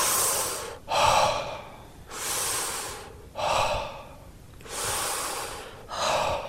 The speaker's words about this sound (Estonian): On suu kaudu hingamine ja ühendatud hingamine. Et me hingame siis suu kaudu sisse ja suu kaudu välja, ilma pausideta niimoodi.